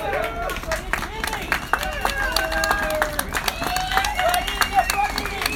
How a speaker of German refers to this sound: Das ist das Klatschen im Hintergrund und genau, wir werden mal sehen, wie es von hier aus weitergeht. Das ist auch nochmal eine Atmosphäre von vor der Köpi gerade.